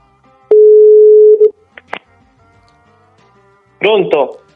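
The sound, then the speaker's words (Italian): One steady, mid-pitched telephone ringback tone on an outgoing call, placed by pressing a button, sounds for about a second, followed by a pause, a couple of faint clicks as the line picks up, and then a person starts talking. “Io ho già pigiato il bottone e squilla.”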